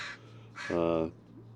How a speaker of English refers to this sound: Some calls. Those are some calls of Northwestern Crow here in town.